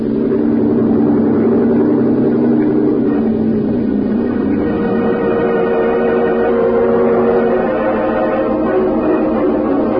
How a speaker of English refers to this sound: Lieutenant, head us in. Cut your engine.